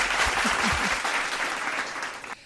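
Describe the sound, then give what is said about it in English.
Steady audience applause, a dense wash of many hands clapping at an even level for a couple of seconds before it cuts off abruptly, with no voices. “Okay, let's give one applause for subconscious thinking.”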